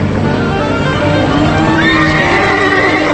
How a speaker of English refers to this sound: In a flashback, Sam and Charlie ride beside a herd of cattle. Something spooks Sam's horse and the animal bucks.